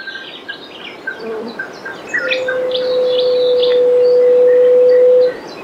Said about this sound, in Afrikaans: Ek het dit nog net 2 maal in my lewe gehoor. Die eerste keer toe ek diep in my 60's was. Wie is die booswig? Dit is die gevlekte vleikuiken. Nou ja, wat op aarde is dit? Daar is min mense in Suid-Afrika wat hierdie voeltjie al gesien het.